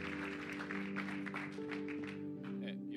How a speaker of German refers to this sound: Halleluja! Wir geben Jesus einen Applaus. Genau.